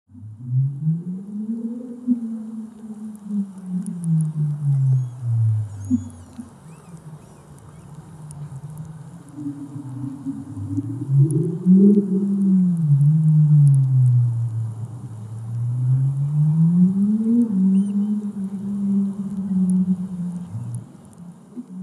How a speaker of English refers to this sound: Sound travels four times as fast in water as it does in air. Many of the creaturely inhabitants of the undersea communicate across the sound waves. Whales and dolphins are well known for their songs, but many other animals call and whoop and click